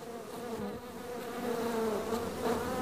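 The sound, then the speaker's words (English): A dense, steady drone of many bees buzzing around an aggressive hive, a continuous humming swarm with slight swells in loudness and no voices. “Usually he can go and just wear a veil and leather gloves and a long sleeve shirt to work with them and with no problems, but he said he had trouble even getting close to this mean hive.”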